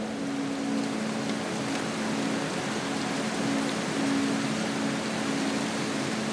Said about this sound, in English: Then, as if some serendipitous moment had occurred, the heavens had opened and the rain had poured.